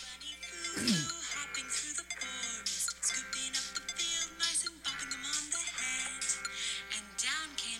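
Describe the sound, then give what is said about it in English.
A techno version of the children's song Little Bunny Foo-Foo plays from YouTube through a small phone speaker, tinny and bright, with busy synth melodies and sliding electronic tones running continuously at a moderate level. “I have to turn my phone back up. This is a techno version?”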